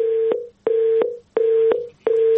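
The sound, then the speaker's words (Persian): A disconnected phone line's tone: a steady mid-pitched beep repeating about four times in a regular on-off rhythm, fairly loud, with no voices. “تلفنشان قطع شد.”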